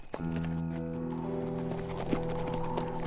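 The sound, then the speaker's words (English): Horses' hooves clip-clop at an easy walking pace as two riders with pack horses travel along railroad tracks, a steady rhythmic patter heard over a sustained, humming musical backdrop with no talking. “By noon, the two riders, the pack horses, and the dog that padded along with them had swung farther to the north and west, still following the railroad tracks.”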